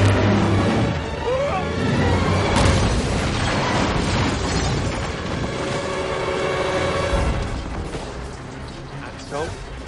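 A loud thunder strike: a sharp crack bursts out early, then a heavy, broad rumble rolls on for several seconds before slowly easing off near the end.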